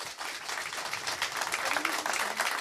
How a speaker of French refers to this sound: Allez, on y va pour la deuxième ? Vous êtes prêts ? Allez, on applaudit.